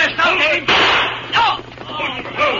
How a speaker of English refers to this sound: Their leader turned to fire at the masked man.